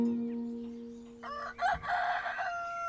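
roosters crowing

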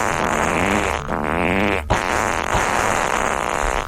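fart sound effect

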